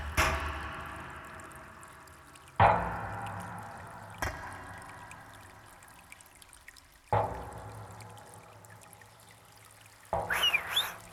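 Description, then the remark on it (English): Water trickles steadily by a bridge on moorland, a continuous babbling flow broken every few seconds by louder gurgling splashes, with no voices present. “Sorry to drag you away from the water, but I'd like you to again follow our lovely volunteer.”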